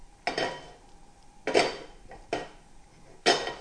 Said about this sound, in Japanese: 鍋に油を小さじ1杯程度、鍋底にスルッと広がる程度で結構ですけれども入れて鍋を火にかけていきましょう。